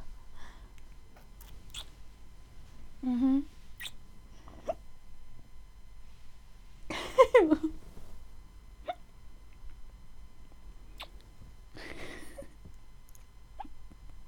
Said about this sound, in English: I have hiccups.